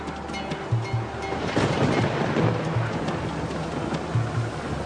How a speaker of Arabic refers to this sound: صحيح انا بصطاد من زمان، لكن عمري ما دخلت اصطاد في الاعماق دي، وعمري ما قابلتني عاصفة بالقوة دي. مية ابتدت تملى المركب وتزيد، وابتديت افقد الامل واحس اني خلاص دي النهاية.